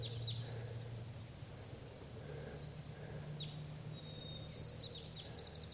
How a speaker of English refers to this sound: 6:30, and there are some more wild crossbills coming in. One, two, at least three or four birds are here. And they're, now they're all perched in the trees above the net. And at least one of them's a female.